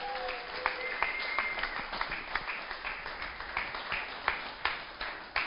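A room full of people at a Christian gathering applauds warmly to welcome a woman about to share her testimony, many hands clapping in a dense, steady wash with occasional sharper claps standing out, heard from within the audience at moderate volume.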